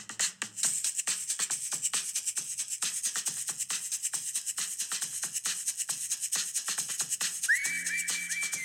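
whistled melody

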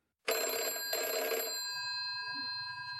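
telephone ringing

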